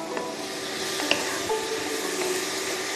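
Steady sizzling from a hot pan fills the whole stretch, with a few soft clicks and stirring scrapes as pasta goes into the bubbling sauce. No one speaks.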